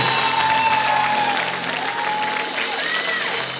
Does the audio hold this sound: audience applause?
yes